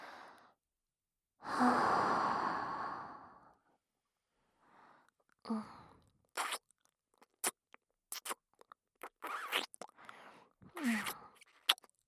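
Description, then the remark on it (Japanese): A long, breathy exhale blows right onto the microphone's ear to warm it, followed by a string of soft, wet mouth clicks and smacking noises spaced by short pauses. “まずはこちらのお耳から吐息で温めていきます。”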